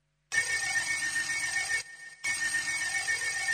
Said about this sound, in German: Ein Telefon.